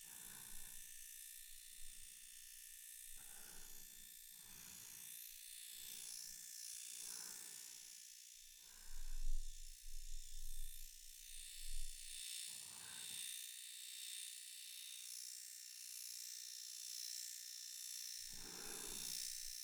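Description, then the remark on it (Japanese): An electric shaver buzzes steadily in short repeated passes during fine downy hair removal, the motor hum rising and falling as it moves, with a brief rougher rumble partway through and no talking. “痛くないですか？シェーバーは結構好き嫌いが分かれちゃうんですよね。”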